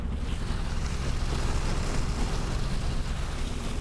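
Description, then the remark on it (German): The motor boat MS Sarah chugs steadily from Strömstadt through the rocky skerries of western Sweden's Koster Islands under a cloudy sky, its low engine rumble pulsing beneath a constant wash of splashing water and wind noise, with no voices. “Nur die MS Sarah, das Boot von Kapitän Stefan Selin, knattert unüberhörbar von Strömstadt mitten hinein in die Schärenlandschaft Westschwedens.”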